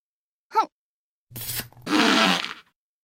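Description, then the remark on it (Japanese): A quick voiced gasp, then a raspy, rumbling fart lasting about half a second, followed by a longer airy, hissing rush of breath or gas that fades out. “おなら、出ちゃうよ。”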